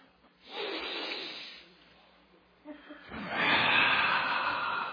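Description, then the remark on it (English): Two loud, forceful breaths in a breathing exercise: a long hissing inhale, a short pause, then a longer, rushing exhale, with no talking. “Breathing should be like that. Let's do it together.”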